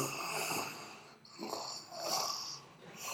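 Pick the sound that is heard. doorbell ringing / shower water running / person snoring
person snoring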